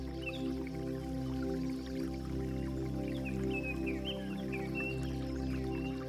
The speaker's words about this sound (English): And nearby, a fresh water stream meandering here and there through the woods trickles alongside you now